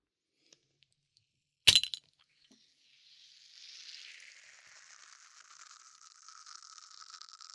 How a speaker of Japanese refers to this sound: これ何の音かわかる？ラムネだよ。青色の空と海をイメージしたラムネなんです。知ってますか？ラムネは振るとさらにいい音がするんです。ね？いい音するでしょ。